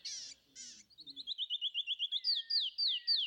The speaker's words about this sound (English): Canyon Wren is one of my all-time favorite bird songs because it's just this beautiful set of whistles that are cascading. You can hear their song echoing off of canyon walls and large rock structures,